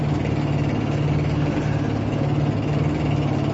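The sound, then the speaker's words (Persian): A rough, harsh-sounding engine, probably a motorcycle, idles steadily, its low droning rumble holding an even loudness throughout with no talking. “چه موتور بدصدایی”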